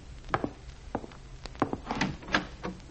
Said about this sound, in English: I opened the door and went in.